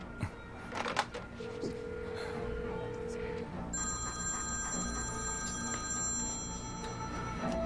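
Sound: telephone ringing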